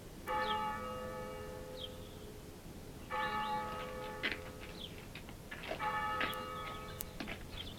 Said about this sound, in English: Toll of the passing bell. Yes, poor Lady Thorpe.